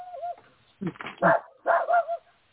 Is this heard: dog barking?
yes